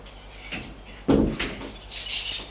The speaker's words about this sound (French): Il entend. La porte d'entrée s'ouvrir.